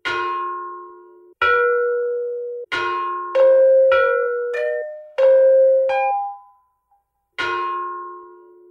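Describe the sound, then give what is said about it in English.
A set of bells, of the same style as bells held at the Smithsonian and able to give multiple tones, rings out a slow melodic sequence, about nine clear strikes at different pitches, each tone sustaining and overlapping the next before fading, with no voices. “I found one set of bells that are not these particular bells, but they're the same style of bell that are at the Smithsonian.”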